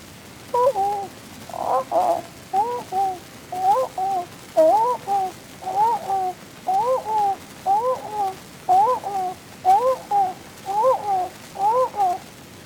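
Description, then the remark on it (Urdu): A human voice, asked to act as a dove, imitates a dove's cooing, repeating soft, hollow two-part coos in a steady rhythm about a dozen times, clear with no other talking. “اچھا بیٹا، الو کا تم فاختہ، ذرا فاختہ بن جا۔”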